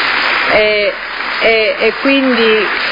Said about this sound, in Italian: Quindi vi ringrazio, ma non volevo applausi, però è soltanto una realtà di fatto, no?